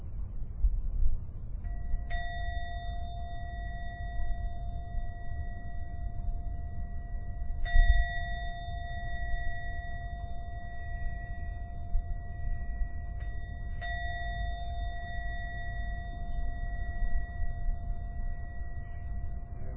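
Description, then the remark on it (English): A meditation bell is struck three times at steady intervals to end a meditation. Each strike rings out with a clear, sustained tone that lingers and overlaps the next, over a low background hum. “I'm now going to ring the bell 3 times. When the last sound from the gong begins to vanish, only then open your eyes to end the meditation.”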